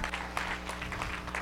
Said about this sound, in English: How many people want to see him? Clap your hands, please.